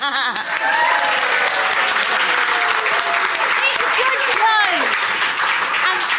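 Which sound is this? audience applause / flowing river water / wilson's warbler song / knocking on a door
audience applause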